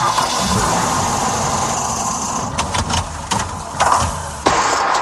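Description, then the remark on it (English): A car engine churns and labors steadily, with sharp bursts and sputters near the end as it struggles to start, loud with no voices. “Hear that? That's your car begging for some winter TLC at Ford Brothers Automotive Repair.”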